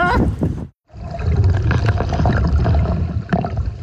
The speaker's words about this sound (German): Oh, Alter, das füllt sich einfach alles mit Wasser hier und ist saukalt.